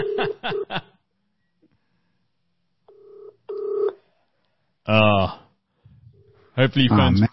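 An outgoing phone call rings without being picked up: a quick run of electronic beeps, then ringback tones repeating with pauses in between, fairly clear.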